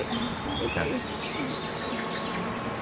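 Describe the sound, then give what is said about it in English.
A honeybee stuck in honey buzzes, a steady, fairly loud drone with shifting pitch as its wings beat, continuous throughout with no voices. “Oh, another bee that got stuck in the honey there.”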